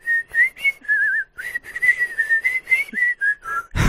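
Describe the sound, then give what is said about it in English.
A person whistles a bird-like version of a song tune, a series of quick chirpy notes warbling up and down at a high pitch, steady and fairly loud, ending with a brief burst of noise. “Can you make like a bird version of that for me?”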